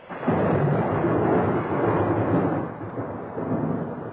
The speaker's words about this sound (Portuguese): A chuva fica ainda mais pesada em Roma.